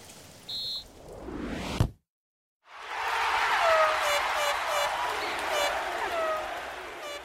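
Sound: rain falling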